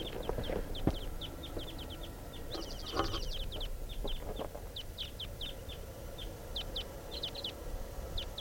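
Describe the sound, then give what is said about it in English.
The flight song of a wild type 2 bird, one of a pair just taking off: a steady string of short, high chirps repeating quickly for several seconds, with a brief buzzier burst partway through, over a constant low background rumble. “Flight song in the wild type 2 bird.”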